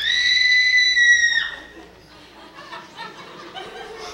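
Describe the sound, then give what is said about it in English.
A crowd lets out a loud, sustained high-pitched scream together for over a second, then it breaks off into scattered yelps, laughter and overlapping chatter. “because while I have many Boston screams in the archive, we certainly do not have a megapolis scream. And indeed, this is our chance to work together, to collaborate.”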